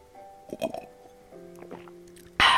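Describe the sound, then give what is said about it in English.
A few wet gulping and swallowing sounds from someone taking a sip of wine, squishy and intimate, followed by a sudden loud burst of noise at the very end. “you guys are just hearing me, like, gulp”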